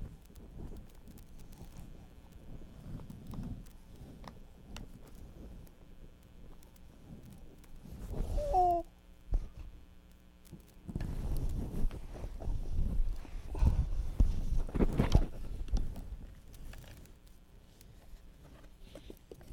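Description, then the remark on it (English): Zebra hooves clip-clop in a steady, rhythmic pattern, growing louder and busier through the second half, with a short high squeal partway through. “Oh, look at that. It's a zebra.”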